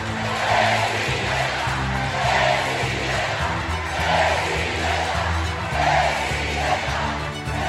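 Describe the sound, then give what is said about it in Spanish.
A large crowd of Morena party supporters roars continuously at a rally attended by Claudia Sheinbaum and Adán Augusto López, its approving cheers and boos swelling in rhythmic waves every couple of seconds, loud, with no single voice standing out. “asistentes destacó la presencia de la jefa de gobierno de la Ciudad de México, Claudia Sheinbaum, y la del secretario de Gobernación, Adán Augusto López, quienes entre gritos aprobatorios y abucheos se congregaron entre los morenistas más activos.”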